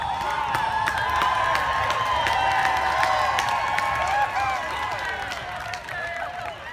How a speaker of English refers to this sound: In response, the crowd, almost all white, cheers.